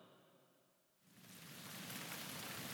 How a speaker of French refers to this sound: La pluie comme berceuse, j'endors mon esprit avec ce qu'il veut te retrouver.